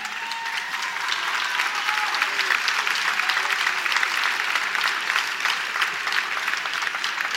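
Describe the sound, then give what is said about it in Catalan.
A crowd applauds steadily and loudly for several seconds, a dense wash of many hands clapping with no single claps standing out, filling the whole stretch without pause, as people applaud because a fire has gone out during a festival proclamation (pregó). “La gent aplaudeix perquè s'ha apagat el foc.”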